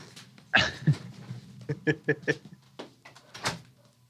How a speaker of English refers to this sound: Oh, these fucking dogs are barking. Be right back.